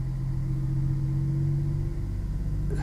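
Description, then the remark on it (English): A deep, steady tractor engine rumble outside drones on without a break, heavy in the low bass with a constant hum. No voices are heard. “Oh, there's a tractor outside that's really bassy.”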